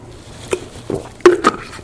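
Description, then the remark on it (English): Someone takes a sip of water: a few soft clicks and wet mouth sounds, then a brief gulp with a faint clink of a glass. No talking. “Back to our text as soon as I take a sip of water.”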